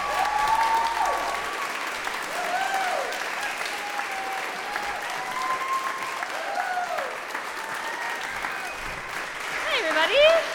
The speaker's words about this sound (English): So we're lucky because we have another storyteller ready to take the stage. Enormous round of applause, please,